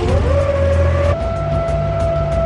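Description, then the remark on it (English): A jet-powered vehicle's engine starts up on a track, starting slowly then picking up: a loud whine rises and then holds at a steady high-pitched tone over a deep rumble. “It really does sound like a jet engine.”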